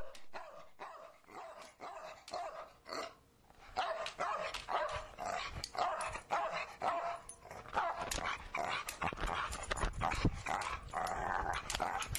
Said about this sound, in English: It's your own fault. You let the dog track die down.